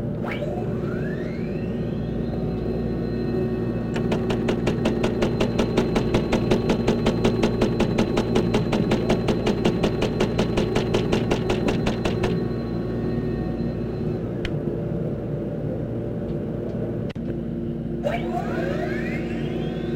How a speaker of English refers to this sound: The next sound will be a system analyzer and printer giving you the results.